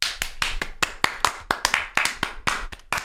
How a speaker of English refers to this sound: Bit of a delayed applause.